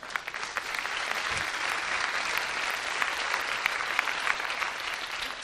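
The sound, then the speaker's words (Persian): Steady clapping from a group of people, a dense crackle of many hands that holds at an even level for several seconds, with no one speaking over it. “تشویقش کنیم.”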